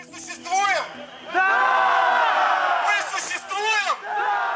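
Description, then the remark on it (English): A large crowd of protesters at a White Ribbon protest rally of 2011–2012 chants the slogan "We exist" in unison, loud, full-throated bursts of many voices rising and falling, with a long sustained shout in the middle and a brief dip before it resumes. “And he leads them in this chant, you know, we have our voice and we exist. Yes, the crowd shouts back, right?”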